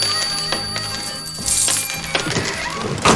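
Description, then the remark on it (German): A handful of coins drop one after another into a donation chest, each landing with a bright metallic clink and a short ringing tone, in an irregular patter with no talking. “Dort ist auch die legendäre Zeitrisse-Spendentruhe aufgestellt. Werfen Sie doch bei Gelegenheit ein paar Münzen hinein.”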